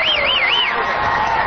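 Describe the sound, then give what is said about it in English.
A large crowd cheers loudly and steadily along a parade route as the President and Laura Bush walk down it after his inauguration for a second term, a dense wash of voices with a high warbling whistle cutting through for the first half second. “Crowds went wild as the President and Laura Bush walked down the parade route after the President took office on Thursday, officially kicking off his second term.”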